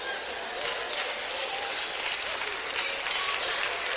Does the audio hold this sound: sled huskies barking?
no